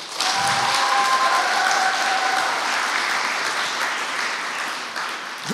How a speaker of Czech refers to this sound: Děkuji, teď už jsem spokojený, to už je maturitní potlesk.